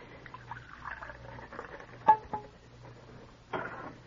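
A steady trickle of cocoa pours into a cup for about two seconds, followed by a few sharp clinks of china and a final soft clatter. No one speaks.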